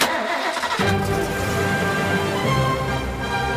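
A large bus engine in Amersfoort cranks briefly and catches, then settles into a loud, steady rumbling idle, with no voices present.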